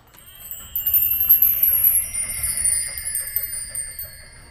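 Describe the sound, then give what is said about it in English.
A bell rings steadily with long, shimmering overtones over a low engine rumble as a vintage fire truck carrying the Fire Chief and the singing Dapper Dans rolls by at the Magic Kingdom, growing louder before easing off slightly. “Oh, here come the Dapper Dans and the Fire Chief on the fire truck.”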